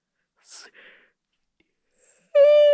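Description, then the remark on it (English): A person yawns, starting with a breathy, airy intake and ending in a sudden loud, high-pitched vocal squeak that holds steady. No one speaks. “And sweet yawning.”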